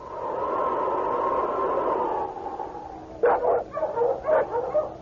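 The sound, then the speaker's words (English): Several sled dogs of Monk Wessel's team fight outside a trading post: a long, strained whining howl gives way to a flurry of sharp, overlapping barks and yips in quick, uneven bursts. No one speaks. “Outside the trading post, Monk Wessel's dogs were fighting among themselves.”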